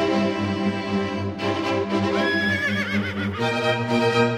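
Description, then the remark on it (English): A horse neighs loudly, a long, quavering whinny that wavers in pitch and carries on for several seconds, with no one talking over it. “Release the horses!”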